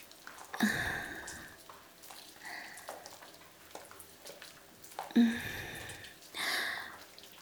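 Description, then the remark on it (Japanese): Wet, soapy squishing and slippery sliding sounds of foamy lather rubbed over a person's back with a woman's breasts, coming in a few short bursts, with softer rubbing and faint breaths in between. “泡でぬるぬる滑って、君の背中中、くまなくおっぱいが当たってるでしょ。”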